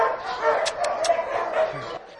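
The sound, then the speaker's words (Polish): A frightened, knee-high black-and-tan dog with a white chest marking, caught as a wild dog and now being socialised with people, barks and yelps in three sharp, high bursts in quick succession, with muffled voices and background noise underneath. “On się nie zaprezentuje łagodnie, bo on został odłowiony jako dziki pies, my go dopiero socjalizujemy z ludźmi i tak jest duży sukces, że już wychodzi na spacery, że możemy go wziąć na ręce”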